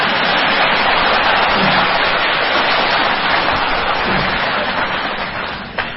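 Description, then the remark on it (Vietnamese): A crowd applauds steadily for several seconds, a dense wash of clapping hands that stays loud throughout and eases off slightly near the end, with no voices over it. “Câu hỏi thì nhiều, em nói thì dài, mà đại chúng hoan hỷ ngồi nghe la rai thì xin cho một tàng pháo trai hoan hỷ.”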